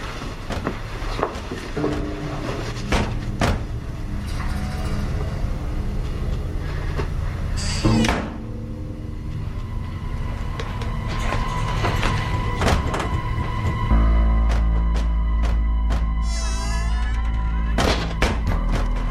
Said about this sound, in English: I heard the door shut. I heard a door slam. And then I heard another door slam.